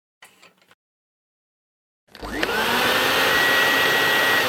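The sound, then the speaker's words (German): An early 20th-century vacuum cleaner with a small exhaust pointing upward switches on after a brief faint rustle and silence, its motor whining up to speed and then roaring loudly and steadily, with a thin high tone over the rush. “Also hier sehen wir einen Staubsauger, der einen kleinen Auspuff nach oben hat, wo wir eigentlich gleichzeitig Staub einsaugen und produzieren.”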